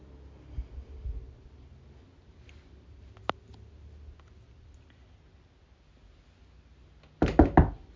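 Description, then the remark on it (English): Two quick, solid knocks on a door from the hallway, by a doctor checking whether a patient is ready for him to come back in, fairly loud, arriving near the end after several seconds of near silence with only faint soft thumps earlier. “Now start getting undressed, and I'll knock twice to see if you're ready for me to come back in.”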